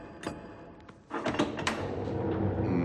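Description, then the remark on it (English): A heavy palace front door creaks and scrapes open after a couple of sharp knocking clicks, followed by a sustained low rumbling drone; no voices, moderately loud. “Felix arrives at a chocolate bar welcome mat at the palace's front door.”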